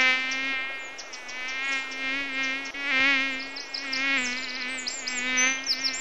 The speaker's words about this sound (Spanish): Se acercaba el fin del gran calor y las moscas molestaban más de lo acostumbrado.